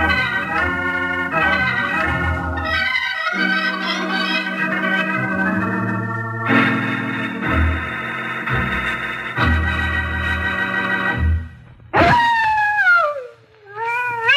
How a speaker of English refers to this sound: Hear that, kids? Hear that? Well, that's the howl of a coyote, a sound you hear lots out west.